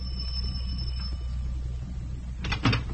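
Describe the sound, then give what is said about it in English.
A bright electric doorbell rings steadily for about a second at a house's front door late at night, almost 11 o'clock, then after a pause the front door clatters open with a short rattling burst over a low background hum. “I parked in front of Shirley Kernan's house and went up the front steps. I could hear voices behind the door. I rang the bell.”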